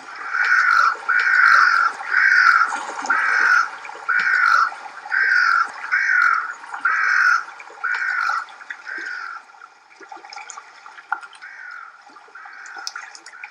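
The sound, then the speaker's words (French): Wintering migratory birds resting at a lake call in a steady series of about ten loud, harsh, honking notes, evenly spaced, then fade to softer scattered calls over a faint watery background, with no one speaking. “Pendant l'hiver, c'est une aire de repos incontournable pour les oiseaux.”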